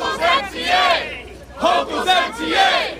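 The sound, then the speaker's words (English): A crowd of voices chants together in loud, rhythmic shouted phrases, two bursts separated by a brief pause, at an outdoor rally for the Midtown congestion pricing tolling plan outside a subway stop in Cypress Hills. “spoke to the crowd hoping to reverse what Hochul did”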